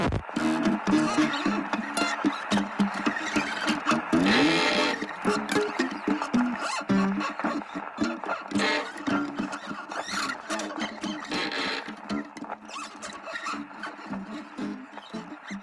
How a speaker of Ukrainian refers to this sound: Голка лягла на платівку, і незабаром з патефонної труби залунали хрипи, рипи, хлипи і інші дивовижні звуки.